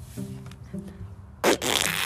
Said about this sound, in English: I have to fart. Do it.